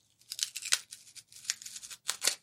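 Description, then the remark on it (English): Polystyrene cracking and creaking in a series of short, crunchy, squeaky bursts, irregular and fairly hissy in tone, with brief pauses between clusters and no voices. “Now we've got cracking polystyrene.”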